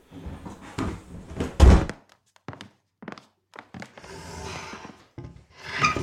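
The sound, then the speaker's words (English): A heavy wooden trunk scrapes and squeaks as it is dragged around in short, uneven pushes, with a loud hollow thunk partway through and longer rough scraping near the end, fairly loud. “trunk gets dragged around, and I recorded some wood squeaking and scraping noises.”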